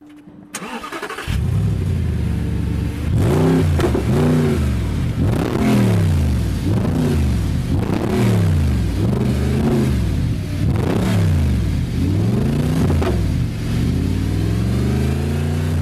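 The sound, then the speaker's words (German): A powerful sports car engine at a used and new sports car dealership in Melchingen on the Swabian Alb, Germany, starts up and revs repeatedly, its pitch sweeping up and down in loud bursts with a deep rumble between them. “in Melchingen auf der Schwäbischen Alb nicht mehr nur um einfache Autos, Gebrauchtwagen, also Poloverkäufe, sondern um fetten Sound.”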